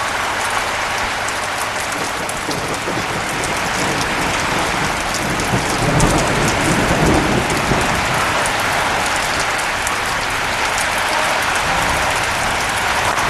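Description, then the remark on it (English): Heavy rain pours in a dense, steady roar, and a low rumble of thunder swells briefly about halfway through before fading back under the downpour. No one speaks. “Listen to this thunder.”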